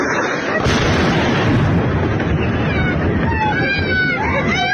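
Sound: rocket strike explosion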